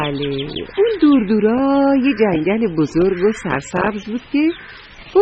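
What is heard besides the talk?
birds chirping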